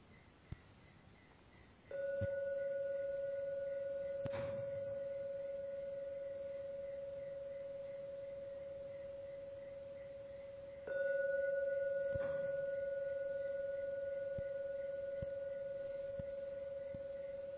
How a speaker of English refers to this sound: If your mind is very peaceful, you can hear just so much in one ring of a gong. It's called enhanced awareness. But anyway, I'll ring it for 3 times, and the 3rd ringing of the gong, you may come out of your meditation.